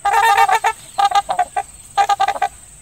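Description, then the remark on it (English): Three bursts of honking, nasal trumpeter swan calls, each a rapid run of short toots with a horn-like tone, from a pair of swans with cygnets at a wetland in southeast Michigan. Brief pauses separate the groups, and no one speaks. “Such is the case of the trumpeter swan.”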